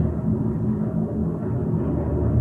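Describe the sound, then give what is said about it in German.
A loud, steady low-pitched roar of an airplane passing close overhead, filling the whole stretch with a constant deep rumble and no voices over it. “Boah, ich glaube, das war richtig nach, dieses Flugzeug.”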